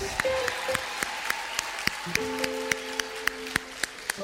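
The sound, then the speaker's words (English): An audience claps for a quiz team receiving an award at a presentation, in a steady, evenly spaced rhythm, sharp individual claps rather than a dense roar, with low sustained tones humming faintly underneath. “Clap for the June Bonds.”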